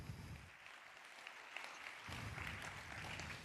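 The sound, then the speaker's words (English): An audience claps steadily for the introduced speakers of a talk titled "Chatbots in school?", a dense, crackling wash of many hands that holds an even, moderate level throughout, with no voices over it. “Let's have a very warm round of applause for them.”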